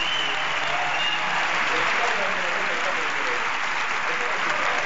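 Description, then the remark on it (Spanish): An audience applauds after a woman in a long red sleeveless dress and white shirt asks the public to clap: a dense wash of clapping that holds at an even, loud level for the whole stretch, with a faint murmur of voices underneath. “Que está pidiendo al público que aplaudan.”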